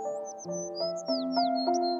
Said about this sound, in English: Picture yourself as a child in a meadow on a beautiful day. There are clouds in the sky. You can hear birds.